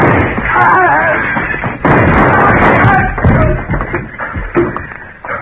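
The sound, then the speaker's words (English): A burst of loud, sharp gunshots fires in quick, irregular succession, each crack cutting through a dense, noisy background, with a few further scattered shots near the end. “Oh, just shoot him and get out of here.”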